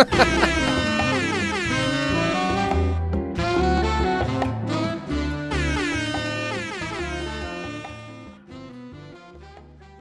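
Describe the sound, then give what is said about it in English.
A slowed-down, mellow remix of an air horn, its blaring tones stretched into long, rich chords over a low bass pulse, loud and steady before gradually fading toward the end. “And heading into the break, you can enjoy this chillax version of the air horn.”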